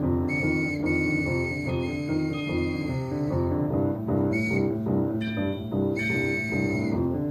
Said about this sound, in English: There's the factory. And there's the trolley. Trolley with his whistle.